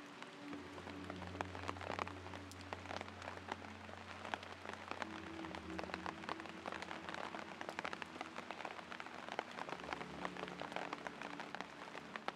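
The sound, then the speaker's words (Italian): Steady rain patters continuously on a hard surface, dense, with scattered louder drops and a low steady hum underneath; no voices. “Consenti alla pioggia di purificare la tua mente e il tuo spirito.”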